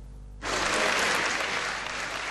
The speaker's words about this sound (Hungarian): Hangos taps fogadta Hillary Clintont a parlament felsőházában a Tom Lantos intézet ünnepélyes megnyitóján.